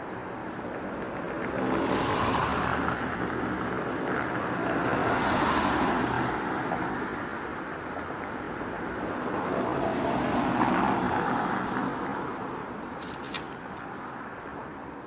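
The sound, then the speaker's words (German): Steady street traffic rolls past a bench on a pedestrian path running along the middle of the street, a broad continuous roar with several vehicles swelling and fading in turn, with no talking. “Hier kann man wunderbar ein Päuschen machen und dem Verkehr, den Fußgängern oder vorbeifahrenden Fahrradfahrern lauschen.”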